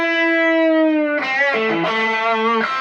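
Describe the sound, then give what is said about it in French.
A distorted electric guitar plays a note at the third fret that is bent up a whole tone before being picked, holding it steadily for about a second, then strikes again, releasing the bend, and slides through a few quick notes that step downward in pitch. No one speaks. “Je fais le pré-bending et je joue qu'après.”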